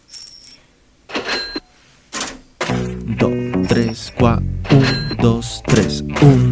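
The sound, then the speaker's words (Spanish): Coins from a broken piggy bank drop and clink with bright, metallic rings in a few scattered bursts, mixed with thumps and voices talking over them. “Uy, plata. Plata. Son mis monedas, qué pena.”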